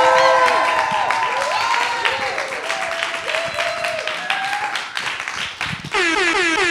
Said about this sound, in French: Avant de vous inviter à vous asseoir avec moi, à regarder passer le carnaval d'Amber qui aura lieu le 6 avril prochain, je voudrais proposer au public d'applaudir nos formidables animateurs